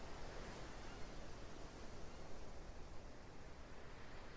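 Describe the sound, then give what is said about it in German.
Ocean waves washing ashore as a steady, soft roar of surf, a continuous hiss with only gentle swells and no distinct breaks, with no voices. “Und ja, dein Körper kennt diese Ruhe im Wechsel aus Anspannung und Entspannung, diese Ruhe des Meeres, die sich einfach übertragen kann auf dich.”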